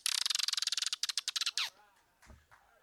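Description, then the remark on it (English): A voice imitates a dolphin: a rapid train of high, squeaky chirping clicks that speeds up, then a short descending whistle and a few softer trailing squeaks. “Do you want to share that dolphin noise?”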